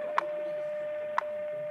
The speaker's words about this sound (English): Listen now. Gonna go 60 seconds on this. Every one of these ticks is a second. This number is the number out in Denver, Colorado.